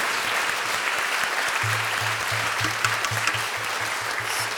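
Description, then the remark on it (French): A concert audience applauds steadily and loudly for the whole stretch, a dense wash of clapping with no voices, applauding the people of Iran who go into the streets to demand their freedom, while a low rhythmic pulse thumps underneath during the second half. “C'est ces gens-là qu'il faut applaudir du fond du cœur et...”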